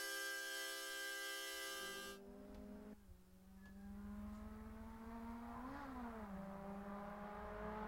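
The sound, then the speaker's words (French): A Cobalt SS sports car's 2.4-litre Ecotec four-cylinder engine (173 hp, five-speed manual gearbox) revs steadily, its pitch climbing and dipping as the throttle rises and falls, loud, with no voices over it. “La Cobalt SS. Moteur 4 cylindres, Ecotec 2.4 litres, VVT à ISC de 173 HP, boîte manuelle G-Trag à 5 vitesses avec surmultiplié”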